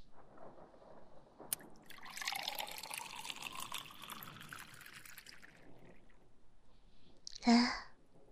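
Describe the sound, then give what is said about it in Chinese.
Water pours steadily into a cup for about four seconds, its gurgling tone rising as the cup fills, with a small click beforehand and a brief clunk at the end. “来，我给你倒点水。”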